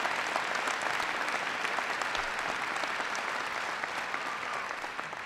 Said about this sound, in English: Paul Hodes, Congresswoman Carol Shea Porter, and behind me, I've got the outstanding administrator for our Small Business Administration, who hails from these parts, Karen Mills. Give Karen a big round of applause.